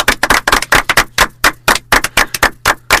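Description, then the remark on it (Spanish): Loud, steady audience applause for a guest, with sharp, evenly spaced claps, roughly four to five per second, keeping a brisk rhythm for about three seconds with no voices. “Así que, por favor, demos de nuevo un fuerte aplauso a Íñigo Enrique.”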